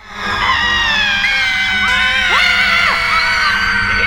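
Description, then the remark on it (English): A person screams from their front door: a long, loud, sustained scream, the voice straining and swooping in pitch midway before holding steady to the end, with no talking. “Behaviours like having coffee in a home-built birdcage on your front lawn, mastering the art of the handstand, or screaming from your front door to ward off the cabin fever.”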